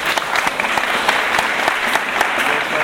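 An audience applauds steadily for about three seconds to welcome a guest being introduced, a dense wash of overlapping claps at an even, fairly loud level, with a few sharper individual claps standing out.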